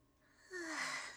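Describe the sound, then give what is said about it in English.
A single drawn-out yawn with a breathy, slightly voiced tone that swells and then fades, heard alone without any talking. “Sorry, I didn't mean to yawn.”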